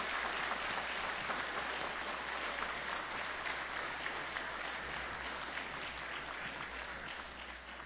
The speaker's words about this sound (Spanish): Les pedimos un venerable y merecido aplauso para ellos, acompañado de toda nuestra gratitud.